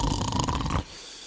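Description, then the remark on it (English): A single loud, rough snore on a music record rattles for under a second and then cuts off abruptly, leaving only faint background hiss. “that is then almost immediately undercut with the gorgeous sounds of farting, snoring, and meowing cats.”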